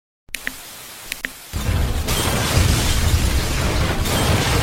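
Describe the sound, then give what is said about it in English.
A couple of sharp clicks, then a sudden heavy crash as a boulder falling from the sky smashes through a new TV, followed by a loud, sustained rumbling roar of debris that continues to the end. “Oh my gosh, it's raining rocks from the sky.”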